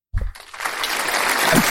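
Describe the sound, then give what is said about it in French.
A short burst of applause sound effect, played to celebrate reaching one million listens: a low thump, then dense crackling clapping that swells and holds steady at a fairly loud level, with no voices. “Je lance les applaudissements.”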